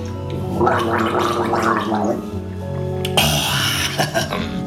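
A wet gargling sound bubbles for a couple of seconds as a person drinks a sip of a solution from a glass, followed by a brief sipping slurp and a second burst of throaty gargling, loud, with no talking.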